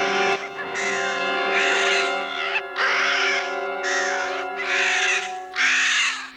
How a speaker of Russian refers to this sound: Это хищные птицы ринулись свысока на беззащитных гусениц. Девочки схватили прутья и прогнали птиц.